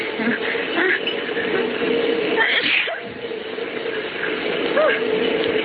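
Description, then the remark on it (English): A steady engine hum and constant traffic noise from riding on an open-top double-decker bus through the city, with a wind-like rush and a few brief, indistinct voices. “And this is the first time I ever rode on a double-decker bus. It's sure nice in the open like this.”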